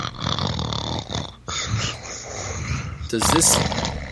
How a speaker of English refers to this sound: Does this sound familiar? Oh, I'm sorry. I was supposed to play the sound of somebody snoring at this point.